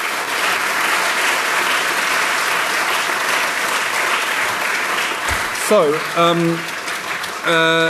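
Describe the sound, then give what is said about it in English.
An audience applauds a panel with steady, dense clapping that holds for several seconds, while a few voices call out over it toward the end. “Can I ask you to give our whole panel a round of applause for their contributions?”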